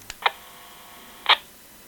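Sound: typing on a keyboard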